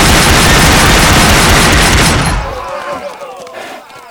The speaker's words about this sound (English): The three men silently stood up in the rocks, their hands filled with Colt 44s, and without a word, they just hauled the hammers back and let the lead fly.